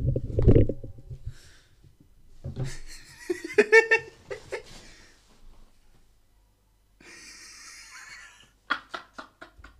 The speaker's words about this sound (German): Digga, hast du gerade in dein Mikro gefurzt, Digga?